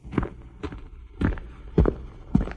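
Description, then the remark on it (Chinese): Five footsteps of a man walking at a slow, steady pace, each a soft, dull thud, heard on their own with no voices. “小树听见摩斯叔叔的脚步声，就努力向下扎根，枝叶也不断地向上伸展，日子一天天过去了。”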